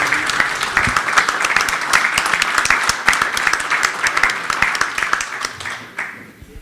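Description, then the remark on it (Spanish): A crowd applauds steadily, many hands clapping in a dense, sustained wash of sharp claps that stays loud throughout before thinning out at the very end. The applause is a club's thanks to someone being presented with a pen. “Así que muchas gracias en nombre del club y un fuerte aplauso para...”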